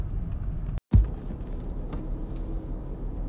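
Steady low road rumble and engine hum inside a moving car driving along Gaien-Higashi-dori toward the Roppongi intersection, continuous and fairly loud, with a brief silent cut near the start and no one talking.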